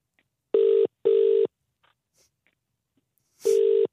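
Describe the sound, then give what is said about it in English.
A telephone ringback tone repeats in steady bursts, two together then a pause before another, clear with no one speaking, as a caller is connected on the Scott Mills Strictly phone line of a radio show. “Would you like me to connect you? Yes. Bear with me, caller.”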